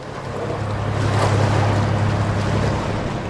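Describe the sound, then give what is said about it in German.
A small wooden motorboat carrying scientists from a biological institute on Helgoland runs steadily on the North Sea to measure water temperature, its low engine drone continuous beneath a wash of splashing water and wind rushing past the microphone, loud throughout with no voices. “Mit einem kleinen Holzmotorboot fahren Wissenschaftlerinnen und Wissenschaftler der Biologischen Anstalt Helgoland fast jeden Tag auf die Nordsee hinaus, um die Wassertemperatur zu messen.”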